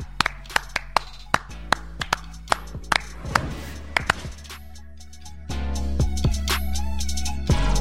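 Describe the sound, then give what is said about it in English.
About fifteen sharp, distinct hand claps sound at a loose, uneven pace for several seconds, then stop as a steady louder hiss with a few faint tones takes over. “Clap it up.”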